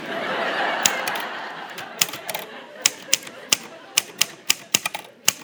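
typing on a typewriter

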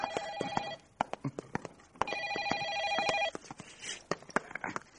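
telephone ringing

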